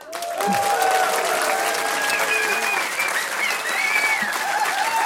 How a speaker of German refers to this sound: Wir möchten Ihnen noch einmal diese ausgezeichnete Band vorstellen. Und bitte einen herzlichen Applaus für einen so jungen und begabten Schlagzeuger.